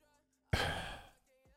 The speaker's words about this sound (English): See, that's the you thing about yawning this. Yawning. What? That's what you were doing.